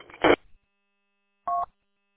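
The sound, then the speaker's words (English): Two short electronic beeps from the parking sensor of a truck stopped at a red light and not moving, separated by about a second of silence, the second a steadier mid-pitched tone. No one speaks. “I don't know if you can hear that, but that was my parking sensor.”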